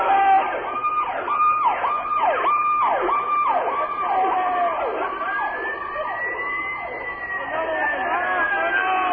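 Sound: emergency vehicle siren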